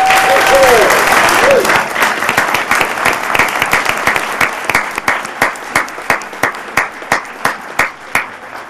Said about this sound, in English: So I think we should give them a round of applause.